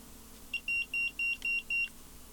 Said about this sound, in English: Oh, there's some beeping. Somebody's at my front door.